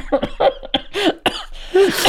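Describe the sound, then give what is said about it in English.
A loud fit of coughing: several harsh, raspy coughs in quick irregular bursts, with brief gasping breaths between them and no talking. “I'm coughing.”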